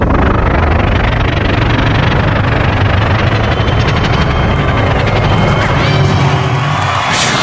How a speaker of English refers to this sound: It needs a little bit of cleaning. The carpet. You just gotta clean the carpet just a little bit with the vacuum. The vacuum.